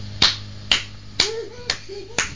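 human body sound, hand clapping

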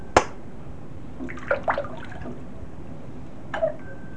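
household object, water splashing

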